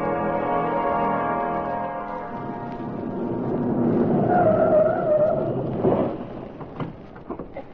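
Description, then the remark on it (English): A car engine hums and rumbles as the car pulls in and parks in front of the federal building, brakes squealing briefly before it stops, followed by a few short clunks. No one speaks. “Chauncey Gardner parked his car in front of the federal building and started across the sidewalk.”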